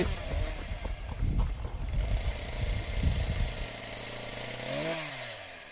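A chainsaw roars, rough and sputtering at first, then settles into a steady idle before revving sharply once more near the end. No one speaks.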